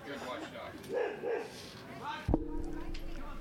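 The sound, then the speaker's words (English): A dog gives two quick, mid-pitched barks in a row, followed by a sudden knock and a steady droning hum that continues to the end. “I was going to take a pause. I like dogs. Do you like dogs?”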